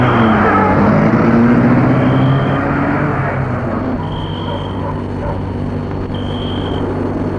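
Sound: car driving away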